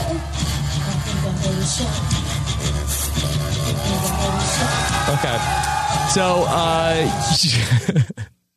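Loud, dense rock music played live at a band's concert, with heavy distorted low end and crowd noise mixed in, running continuously for several seconds before cutting off abruptly.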